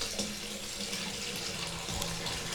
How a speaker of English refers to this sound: But anyway, it's so cold that this tub is already cooling down, so we need to put some more hot water in the bathtub. If I can get my toes to cooperate, put the water in the tub. Here we go.